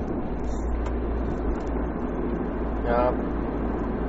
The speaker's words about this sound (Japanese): いきなりやっぱ車走りながらだからあれだけど、喋ってる内容は別にあのちゃんとしてるんですけど